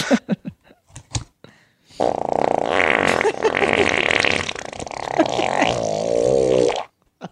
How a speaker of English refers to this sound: That is sitting he's sitting on a plate of donuts, farting on them. He's farting on his food right now.